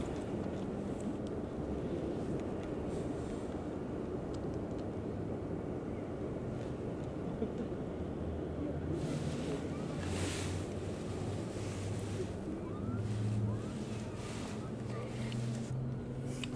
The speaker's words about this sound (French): Départ simultané de deux cabines. Les deux accélérations de machinerie. Le symbole d'un départ à l'horizontale du deuxième tronçon.